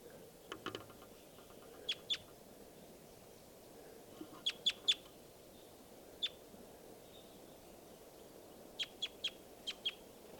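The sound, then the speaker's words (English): Birds tooping and calling, bird 305 tooping and bird 387 calling, in short bursts of two to four sharp, high notes, separated by pauses, over a steady low outdoor background with no one talking. “It's 305 tooping and 387 calling.”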